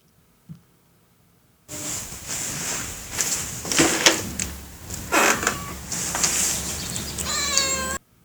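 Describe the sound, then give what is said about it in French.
A cat meows loudly, several drawn-out cries over a steady rustling, scraping background, ending with one clear rising meow before cutting off abruptly. “Ici, on ne miaule toujours pas.”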